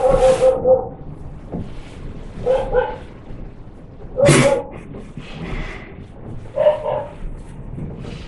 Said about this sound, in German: Das Bellen des Hundes. Ne? Es macht keinen Sinn, jetzt zu philosophieren, ob da jemand ist, der das Bellen macht oder ob das Bellen einfach geschieht.